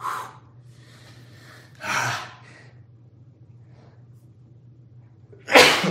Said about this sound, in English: I think I'm going to sneeze again.